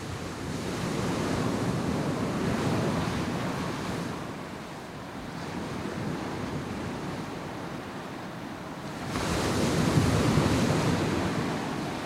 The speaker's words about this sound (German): Wir fahren noch weiter weg, nach Berlin, ganz im Westen, ganz am Ende der Insel, direkt am Meer. Vor uns. Nichts als der Atlantik.